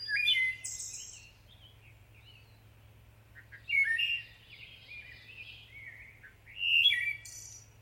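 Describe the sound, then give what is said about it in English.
A wood thrush sings three separate flute-like phrases, each ending in a high shimmering trill, with pauses between them over a low steady hum. The birdsong is clear. “And the wood thrush has this wonderful warbling song.”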